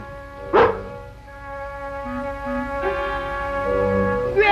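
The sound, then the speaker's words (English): A dog gives one sharp, fairly loud bark near the start, then falls quiet while soft sustained tones, like background music, continue underneath. “Now, you sit right out and see what the dog wants.”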